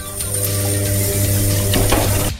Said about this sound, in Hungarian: Tehát nekem a mosógép hangja most ilyen lett egy teljesen semmiféle telefonos felvétellel.